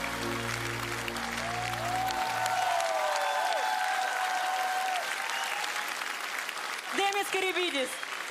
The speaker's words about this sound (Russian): Друзья, ваши аплодисменты.